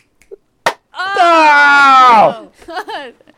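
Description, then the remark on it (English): A group claps in unison on a count of three: one sharp, loud clap like several hands striking together at once, followed by a long drawn-out vocal sound and then people talking. “Definitely heard other, okay, clapping.”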